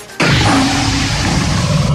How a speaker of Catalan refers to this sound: De moment el club només ha fet una sèrie de piulades, primer amb l'emoticona d'un tigre, després un vídeo amb el so de l'animal